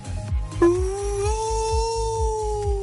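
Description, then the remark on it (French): A person imitates a whale call with one long, sustained moaning tone that rises slightly and holds steady to the end, over a faint, regular low thumping in the background. “Une baleine”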